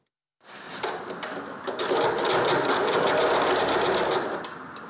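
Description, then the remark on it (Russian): A sewing machine starts up after a brief silence and runs steadily, its fast needle clatter forming a dense, even buzz that holds at a constant loudness with no voices. It is stitching cotton face masks for volunteers in a Sunday school room of the Church of Dmitry Donskoy, Penza, converted into a sewing workshop during quarantine. “Помещение воскресной школы при храме Дмитрия Донского на время карантина переделали под швейный цех.”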